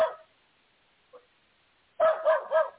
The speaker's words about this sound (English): Oh, my goodness. There's a doggy loose. Oh, so that's what the barking is. Of course, that's going to cause all that barking.